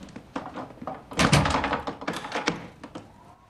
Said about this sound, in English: Holding the candle close to his face, he shuts and bolts the door.